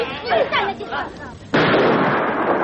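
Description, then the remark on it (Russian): A voice calls out briefly, then loud gunfire aimed at Figan erupts abruptly and continues as a dense, sustained barrage of shots that drowns out everything else until the end. “Что касается Фигана, то ему удается уйти из-под выстрелов живым.”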